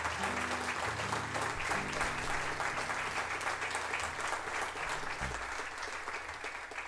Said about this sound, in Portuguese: é com muito gosto que estou a cantar para as pessoas que gostam de ouvir fado e que gostam de ouvir e de ouvir tocar estes excelentes músicos, para os quais peço já uma enorme salva de palmas.